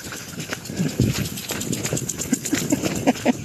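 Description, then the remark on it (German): A lawn sprinkler in a baroque Renaissance garden in the Steigerwald hisses and sprays steadily while quick footsteps run past to get through it, their thudding strides regular and distinct over the constant water noise. “Ihr hört es vielleicht, da ist ein Rasensprenger so eingestellt, dass man rennen muss, um durchzukommen.”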